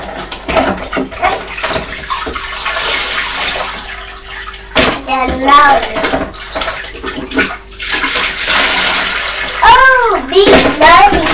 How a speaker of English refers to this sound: But shall we use the red bucket to pour water through the sieve?